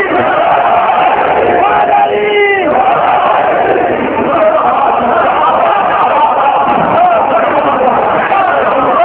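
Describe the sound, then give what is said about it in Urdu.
A large crowd shouts the religious slogan 'Naara-e-Haidari' in unison, a loud, sustained roar of many voices with a rising call in the middle, continuing steadily for the whole stretch. “پڑھ کے نعرہ لگا دیو, نعرے دی آواز کعبے پہنچا دیو, اچھا بول کے دل کھول کے نعرہ حیدری.”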